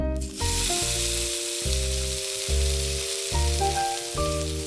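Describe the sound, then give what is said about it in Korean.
Steady, loud sizzling of a breaded pork loin cutlet (donkatsu) frying in oil in a frying pan, half submerged, over medium heat: a continuous crackling hiss that runs the whole time, with a melodic musical tone changing notes underneath and no talking. “빵가루를 뿌려보고 치치치익 소리가 날 때 넣어 굽는다.”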